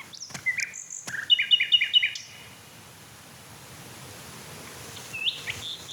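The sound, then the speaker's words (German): A male songbird sings a bright, high-pitched phrase of thin whistles and a quick run of repeated trilling notes, then falls quiet before a short, faint call returns near the end. No talking. “Mich würde echt interessieren, ob er andere Männchen noch singen hört, die ich gerade nicht höre.”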